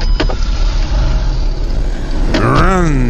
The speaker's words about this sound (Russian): Значит так, звук, исконный звук даю, потому что там сирена, все такое. Вот, погоня. Это Москва.